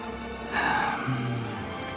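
A clock ticks steadily, its faint regular tick-tock sitting over a low, droning hum, with no voices.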